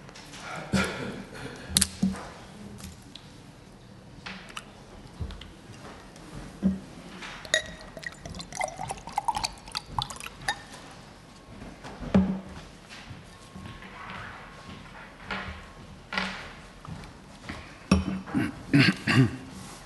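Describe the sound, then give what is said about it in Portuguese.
Handling of a water bottle: scattered plastic clicks, crinkles and a cap twisting open, followed by soft pouring and sloshing, with no one talking. “O que me dá tempo também para eu abrir aqui uma garrafa d'água.”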